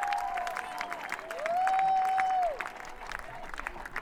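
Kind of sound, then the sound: crowd, round of audience applause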